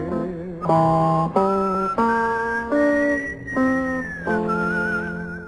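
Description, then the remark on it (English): A whistled melody from a TV western theme song glides over steady, sustained backing chords that shift every second or so, forming a slow, lilting tune. It is fairly loud, with no voices. “Whistle me back where I wanna be. Whistle a tune that'll carry me to Tombstone Territory.”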